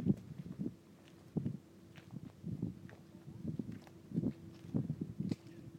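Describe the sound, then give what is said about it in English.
A faint, steady low droning rumble of a distant ferry engine as the ferry comes in and turns, heard from a pier on a slightly windy day, broken by soft irregular thumps and light rustling like footsteps. “And that distant rumbling is the ferry.”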